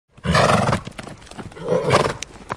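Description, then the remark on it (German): A horse neighs loudly in two strong, raspy bursts, one after the other, with a short gap between them and no talking. “Ohne mein Pferd.”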